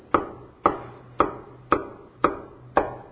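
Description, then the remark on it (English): Six steady knocks on a wooden door, evenly spaced about half a second apart, each a sharp, solid thud that quickly fades, with a faint low hum underneath and no voices. “I'm standing outside the door of your heart and I'm knocking.”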